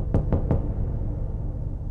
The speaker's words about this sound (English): And then there was a knock on my door.